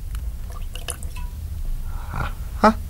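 A teaspoonful of water trickles from a carafe into a wine glass, a few quiet splashy drips ending in a brief, slightly louder liquid plop.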